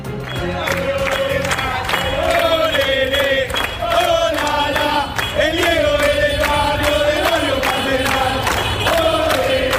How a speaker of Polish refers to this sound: Neapol pogrążony jest w żałobie, ale na ulicach nie milkną śpiewy. Tłumy kibiców w ten sposób żegnają zmarłego wczoraj legendarnego piłkarza Diego Maradona.